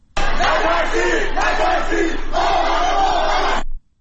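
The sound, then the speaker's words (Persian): A crowd gathered in residential areas of the city of Qom on a Wednesday evening chants the protest slogan "Don't be afraid, don't be afraid, we are all together" in unison, loud and rhythmic, with the phrase repeating in about three surging bursts before cutting off abruptly. “در شهر قم نیز شامگاه چهارشنبه افراد متعددی در محوطه‌های مسکونی شهر تجمع کرده و شعار نترسید نترسید ما همه با هم هستیم سر می‌دهند.”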